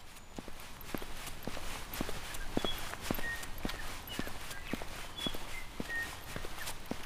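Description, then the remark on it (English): Steady walking footsteps crunch along a forest path in Dunedin's urban forest, which runs along the middle of the city, after rain the night before, at about two steps per second. A few brief high bird chirps sound over a soft background hiss, with no talking. “So I'm going to try and take a walk and share with you what I listen and see.”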